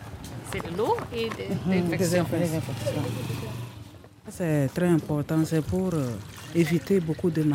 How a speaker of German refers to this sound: Die Reinigungskraft Christine misst das Desinfektionsmittel genau ab und schüttet es in einen Eimer mit Wasser.